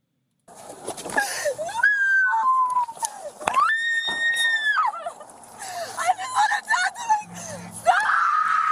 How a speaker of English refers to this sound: What's happening now is she's being manhandled by three police. I'm not faulting the police here. They're doing everything they can to get her in a car. She's kicking and screaming.